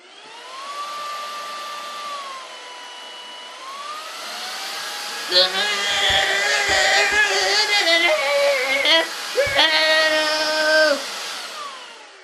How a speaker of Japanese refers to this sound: 新しい掃除機買ってもらったの。いくわよ、フルパワー。